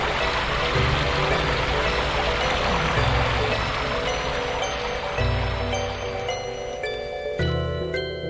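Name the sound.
heavy rain falling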